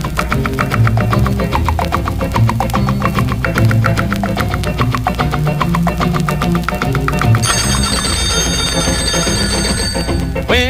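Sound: alarm clock bell ringing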